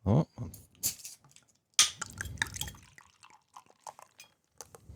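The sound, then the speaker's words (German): Frankenheim beer is poured into glasses: a short gush and trickle of liquid, sharp glassy clinks and taps, then scattered soft drips and small knocks with brief quiet gaps between. “Vielleicht möchtest du es uns schon mal eingießen?”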